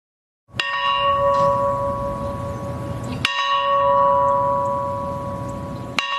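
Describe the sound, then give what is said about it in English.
A large bell tolls slowly, three clear strikes evenly spaced a few seconds apart, each note ringing on and overlapping the next, over a low background rumble with no one talking. It is rung 39 times in Plains, Georgia, for the 39th US president while the hearse waits. “As the car waited, engine purring smoothly, a bell was rung 39 times for the man who was the 39th president of the United States of America.”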